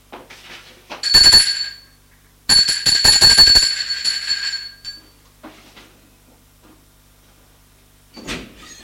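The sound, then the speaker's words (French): A doorbell at the right-hand door on the second floor, just off the lift, rings twice, a short burst and then a longer rattling one, bright and high-pitched with a metallic buzz, followed by a few faint shuffling sounds and a soft thud. “Freddy va sonner à la porte de droite.”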